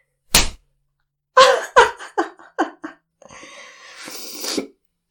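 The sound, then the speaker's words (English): A single sharp slap of a hand against a face, followed by a series of breathy gasps and short vocal cries, then heavier uneven breathing. “You slap me again. This time, even harder.”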